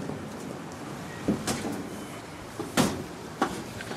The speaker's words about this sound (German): Sie schließt die Tür auf, die aufs Dach führt, steigt über eine Leiter, die im Weg liegt und steht schon auf dem Dach der Querhalle.